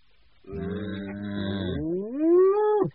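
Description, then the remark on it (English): A single long, loud moo from a cow, starting low and droning before rising in pitch and cutting off abruptly, with no other sounds around it. “All day she worked in the fields until the evening milking when the cows came home again.”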